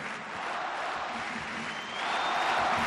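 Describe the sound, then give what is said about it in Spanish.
The crowd on Court Philippe Chatrier at Roland Garros cheers and shouts after a tennis final in a dense, continuous roar that holds steady, then swells louder over the last second, with a few higher voices cutting through the din. “Y otra vez, la Phyllis Chatrier grita lo que tantas veces ha gritado.”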